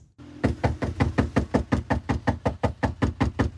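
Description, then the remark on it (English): Heavy, rapid pounding on a door by police, roughly sixteen loud thuds in a steady, insistent rhythm lasting several seconds, with no voices. “How would you like to have cops bang on your door and tell you this?”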